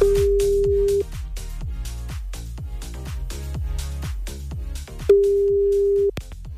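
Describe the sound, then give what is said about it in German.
Two one-second ringback tones from an outgoing phone call to a radio listener in Unterhausen, a steady mid-pitched beep about four seconds apart, with upbeat percussive music playing underneath and in the gap. “Und wir versuchen das Ganze jetzt mal bei Jana in Unterhausen.”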